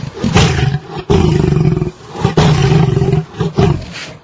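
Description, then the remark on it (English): Deep, rumbling, loud roars in three long drawn-out bursts with brief gaps: a cat's glottal growl slowed down with the low end highlighted in a University of Miami audio lab, sounding like a lion's bellow; no one speaks. “normal glottal sound from a cat.”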